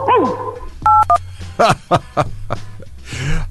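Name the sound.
dog barking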